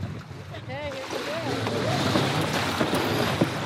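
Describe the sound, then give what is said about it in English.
Sails being raised on a 42-foot sailboat about 3 miles off Costa Rica, with steady rushing wind and water noise throughout and brief voices calling out near the start. “We're 3 miles off Costa Rica on a 42-foot boat when it's time to raise the sails.”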